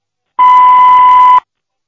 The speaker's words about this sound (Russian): Звонок был перенаправлен на голосовой почтовый ящик. Вы можете оставить сообщение после звукового сигнала.